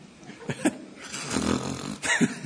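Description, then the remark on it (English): A person imitates snoring with their voice, making a few rough, rasping snorts and one longer drawn-out snore between them, moderately loud, with no words spoken. “After 25 minutes, they were both snoring.”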